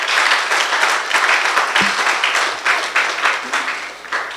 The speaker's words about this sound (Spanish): ¿Cuánto lo creen? Si lo vas a aplaudir, apláudelo bien fuerte.